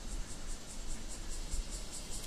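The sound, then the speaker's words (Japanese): A bear cicada (kumazemi) chirps in the morning, heard from a room, in a steady run of rapid, pulsing buzzes, a bright shrill rhythm repeating several times a second. It lasts throughout, with no voices. “これはクマゼミの声です。”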